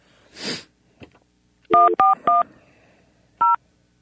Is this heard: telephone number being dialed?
yes